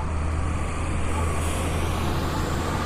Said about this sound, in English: Well, that bus turned right on Frankfurt. I just read a note the other day. It's kind of a tight turn, so they're going to actually start going straight in front of us and then taking the block over parallel to Frankfurt.